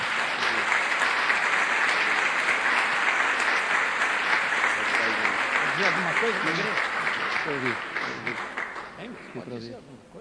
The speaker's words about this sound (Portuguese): Vamos aplaudir a Jesus que está nele.